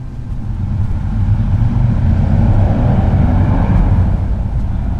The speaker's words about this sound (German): In dem Moment fährt vor dem Haus ein sehr lautes Motorrad vorbei.